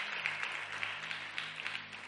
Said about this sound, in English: It's day 18. 19. Day 19. Praise the Lord. Clap for yourself for 19 days.